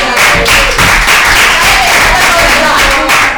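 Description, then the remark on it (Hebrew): A crowd claps steadily and loudly for a few seconds for a man's days of military reserve duty, a dense wash of many hands with no pauses, and some voices mixing in underneath. “חיות כפיים בלי קשר, כל ימי המילואים.”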